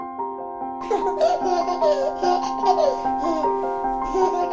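A young child laughs heartily in bursts of bright, squealing giggles that rise and fall, fairly loud, over a steady sustained musical tone in the background.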